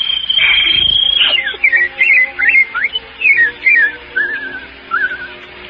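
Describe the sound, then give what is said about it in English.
A person whistles an imitation of birdsong: one long held high note, then a string of short warbling, chirping phrases with brief pauses between them, fairly loud, with no talking. “While the birds make music all the day. Birds, Daddy, birds.”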